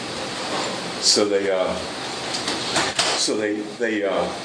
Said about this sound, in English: Oh, this is somebody else coming in. They pulled the door. Very good. All right, come on in.